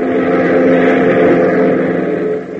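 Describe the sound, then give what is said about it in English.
A steady, loud engine drone of a Beechcraft propeller plane cruising in flight toward Greendale Airport, with a constant low hum and even pitch that dips slightly near the end. “15 minutes later, the boys are airborne in their Beechcraft, heading for the Greendale Airport, 100 miles to the east.”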